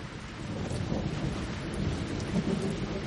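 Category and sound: nature, rain falling with thunder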